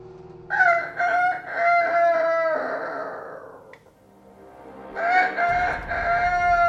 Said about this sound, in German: Der Hahn krähte einmal.